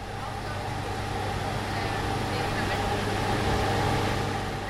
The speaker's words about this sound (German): Das Geräusch kennt man irgendwie. So hört sich ein LKW an, wenn er an der Ampel kurz mit laufendem Motor anhält. Dieser LKW steht aber nicht auf der Straße, sondern auf dem Vorplatz des Lehmbruck-Museums in Duisburg.